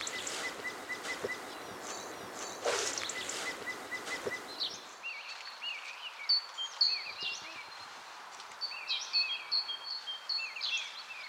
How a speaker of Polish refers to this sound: Pomiędzy sikorbogatek, o jak pięknie, też się da dosłyszeć drozda największego w Polsce, paszkota, aż 27 cm długości, taki masywny i troszkę przypomina kosa w śpiewie, też taki wibrujący gwizd, ale dużo bardziej rwany, bez pięknych melodyjnych